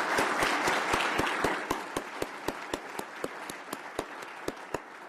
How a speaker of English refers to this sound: Great. How about a round of applause for all our panel members?